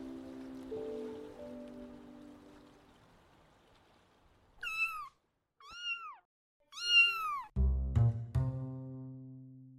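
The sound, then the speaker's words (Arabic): A cat meows three times in quick succession, loud, with rising-falling cries, preceded by a soft pouring, rushing sound and followed by a low rumbling thud. “القطط ما هي كائن بريء زي الكلاب، يعني عيونهم قوية تسوي الجريمة وتنكرها بدون أي ملامح تأنيب ضمير أو حتى ملامح خوف.”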